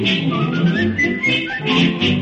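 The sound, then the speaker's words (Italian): A person whistles a bright, wandering melody, the tune rising and falling steadily over a full, busy musical backing that continues throughout. “Adoro il vizio, voglio fischiettare, state ad ascoltare.”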